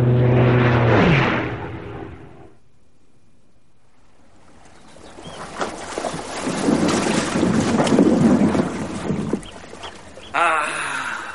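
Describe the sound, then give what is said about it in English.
A boat's hull grinds and scrapes up onto a pebbly Irish shingle beach, a loud, rough crunching that swells for several seconds. Brief voices or tones come before it, followed by a quiet pause. “Sound of good Irish shingle.”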